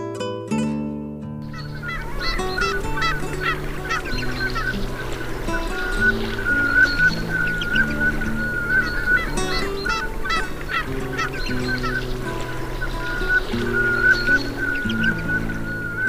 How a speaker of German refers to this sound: Das war die Samtente.